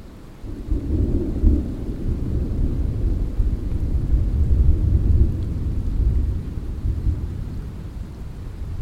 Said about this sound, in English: As we hiked up to rejoin the JMT, thunder cracked and lightning flickered.